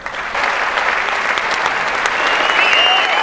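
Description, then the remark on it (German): A mostly young audience at the Haus der Kulturen in Berlin rises and applauds Pastor Franz Molter as he is honoured as an ambassador for democracy and tolerance: a dense, even wash of clapping that swells slightly after the first moment and holds at a loud level throughout, with faint cheering or whistles near the end. “Pfarrer Franz Molter ist sichtlich erfreut, als das überwiegend jugendliche Publikum im Haus der Kulturen in Berlin begeistert aufsteht und klatscht”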